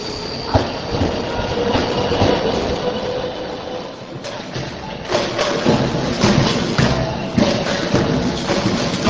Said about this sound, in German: Nach eintägigen Aufenthalten, unter anderem in Görlitz und Breslau, rollte der Zug auch in Prag ein.